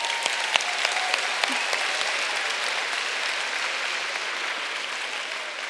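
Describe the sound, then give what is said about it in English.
A large crowd at the DTI claps steadily for those who traveled internationally to attend, a dense wash of applause that stays even and sustained for several seconds, with a few sharper individual claps standing out near the start. “Okay, round of applause for them, because that's beautiful.”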